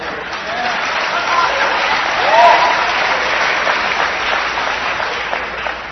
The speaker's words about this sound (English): And I tell you, we applaud it in here, and then you'll go to your open discussion meeting tomorrow and won't defend it.